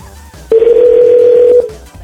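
A single steady telephone ringback tone while waiting for a call to connect, about a minute after dialing, sounds for about one second, clear and fairly loud, then cuts off, with quiet line noise before and after.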